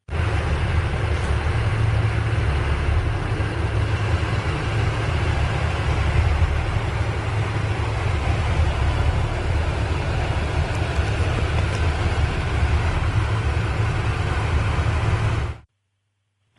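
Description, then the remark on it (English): A deep, low bass hum, recorded on Zug Island during the day of September 19, 2011, by a Windsor City Council member, throbs steadily for about fifteen seconds beneath a wash of broad, rumbling noise, with no voices, then cuts off abruptly. “we have had a particular noise issue where it sounds like a pulsing bass sound.”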